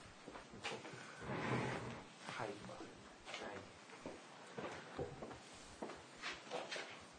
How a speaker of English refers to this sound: I'm going to push that chair out so I can see you guys.